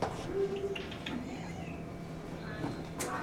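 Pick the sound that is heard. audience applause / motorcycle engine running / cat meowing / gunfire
cat meowing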